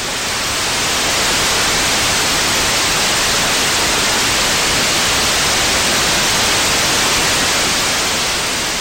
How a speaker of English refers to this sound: It doesn't sound like much to our ears, but that loud hissing noise is a burst of data.